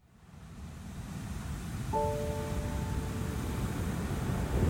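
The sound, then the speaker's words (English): Ocean surf on a beach rumbles in a steady, broad roar that builds slightly over a few seconds, with a soft sustained tone briefly sounding over it midway. No one speaks. “When we got in and we were on the beach, the first thing you notice is the dramatic, sea stacks that from a distance just, they look like mountain ranges almost.”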